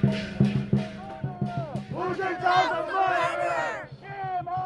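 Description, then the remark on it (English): A protest crowd, many of Tibetan descent, shouts "shame" at the Chinese president Hu, criticizing China over human rights. Many voices overlap loudly in rising, rhythmic bursts that swell into a sustained collective yell before easing slightly at the end. “But another crowd wasn't offering support and criticized China for the way it handles human rights. Many of those shouting shame on the Chinese president were of Tibetan descent.”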